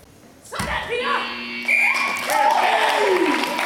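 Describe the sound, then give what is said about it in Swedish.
A steady, sustained final buzzer tone ends FIF Malmö's 8-7 win over Dutch side Hercules at Kulladalshallen, sounding for about a second over crowd noise and cheering, with voices talking throughout as the noise builds afterward. “Där gick slutsignalen, inrikt spännande på slutet kanske, men en 8-7 vinst för FIF Malmö mot holländska Hercules.”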